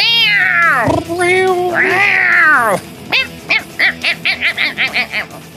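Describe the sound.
A voice imitates a cat, giving two long, wavering meows, then breaking into a quick run of about ten short, rhythmic yowls.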